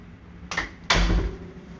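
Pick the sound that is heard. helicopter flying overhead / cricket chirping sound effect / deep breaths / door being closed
door being closed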